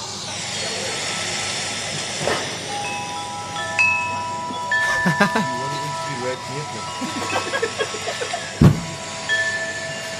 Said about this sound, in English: There's some wind chime sounds.